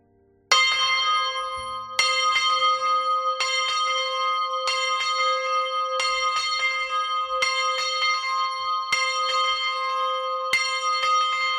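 A loud church bell, rung by a 27-year-old bell ringer, is struck repeatedly in a steady rhythm roughly every second and a half, each strike blooming into a rich, sustained metallic hum that never fully fades.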